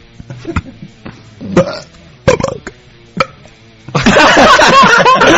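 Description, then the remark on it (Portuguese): A few short throaty sounds and clicks, then a loud, drawn-out forced burp that fills the last second and a half. “Mulher pode passar uma vida sem arrotar.”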